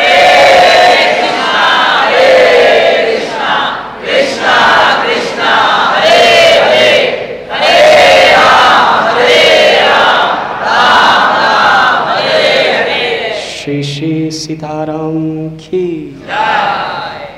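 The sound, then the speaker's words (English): A large crowd cheers and chants the holy name of Sri Ram loudly and continuously in rhythmic waves of many voices, with a sustained horn-like tone rising out of the roar near the end. “At that time, everyone was jubilant, and Sita Devi came forward with the blessings of her father Janak, with the garland of victory, and she placed it on the neck of Sri Ram, and everyone began to cheer and chant his holy name.”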